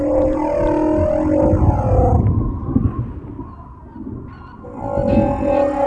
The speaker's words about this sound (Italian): Per esempio, questo che grida ora è un plateosauro.